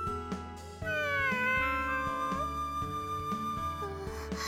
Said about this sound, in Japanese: 見てわかりませんか？猫と遊んでます。